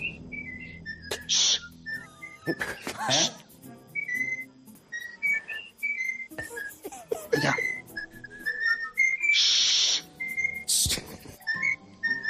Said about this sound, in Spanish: conectaron con el ex colegiado Pajares Paz, que estaba en su casa con el loro al lado. Esto es buenísimo. Y el loro empezó a canturrear algo, a ver.